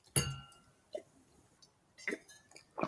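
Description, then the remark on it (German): Two glasses of red wine from the Rhine clink once in a toast, bright, with a clear ringing tone that fades over about a second, followed by a few quiet sipping and swallowing sounds. “Das hier ist ein guter Rotwein vom Rhein. Und ich würde sagen, Prost, ne?”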